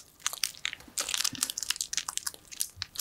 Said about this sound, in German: Wow, da musst du kauen. Genau.